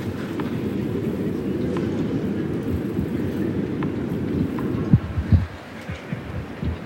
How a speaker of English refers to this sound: Can you hear the wind? It's not as windy. Oh! As it has been,